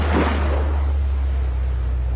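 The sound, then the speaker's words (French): An outboard motorboat approaching slowly over waves at sea: the engine drones steadily with a deep, constant hum, mixed with rushing water and wind noise; a brief surge of splashing opens the sound, and no one speaks. “J'approche doucement le hors-bord.”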